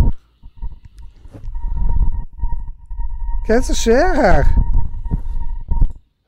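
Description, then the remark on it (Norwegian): A metro (T-bane) line running outside the studio: a steady high whine hums under people talking, rising into a loud, wavering, siren-like squeal for about a second midway before settling back to the drone. “Hvis den der T-banelinja på utsiden ikke stopper ule, så...”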